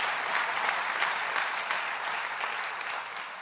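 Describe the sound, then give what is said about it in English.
An audience claps steadily for a few seconds, a dense, even wash of many hands at a fairly loud, constant level with no voices over it. “That's worth clapping for. Go for it.”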